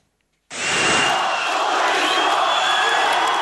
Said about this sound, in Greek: Λοιπόν, πριν πάμε στον Ερντογάν, να ακούσουμε τους πανηγυρισμούς όταν βγήκε, ήταν μεστάνυχτα και κάτι, ο Ιμάμογλου στο μπαλκόνι του Δημαρχείου και τα πρώτα του λόγια.